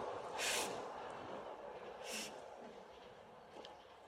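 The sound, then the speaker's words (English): A train rumbles past outside, a steady low roar with two short bursts of hissing air partway through, fairly quiet and with no voices. “I'm glad for the train.”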